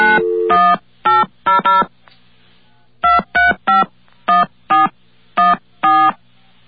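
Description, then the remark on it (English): A touch-tone phone dials an 800 number: eleven short, even beeps in two quick bursts, clear, with a brief pause between the groups and no voices. “I suppose maybe we should just give a call to it?”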